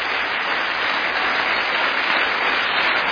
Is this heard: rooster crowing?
no